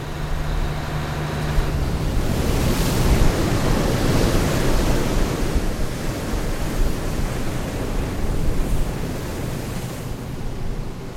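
Steady roar of ocean surf washing onto the shore, a dense wall of hissing noise that swells slightly at moments, heard alone with no voices and a hint of wind.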